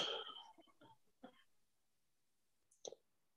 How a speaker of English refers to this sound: I'm sorry, Chairperson, I'm coughing because I'm just recovering from this COVID.